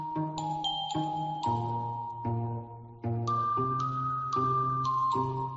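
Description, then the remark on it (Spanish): A soft, tinkling bell melody, a lullaby for babies, chiming steady notes in a gentle, slow rhythm with sustained ringing tones and no voices. “¡Qué bello! ¡Qué espectáculo! ¡Qué pues campanillas!”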